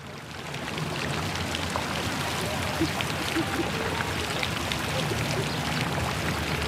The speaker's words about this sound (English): At Tinguely Fountain in Basel, Panke points to the iron parts spinning as spraying water keeps them in motion.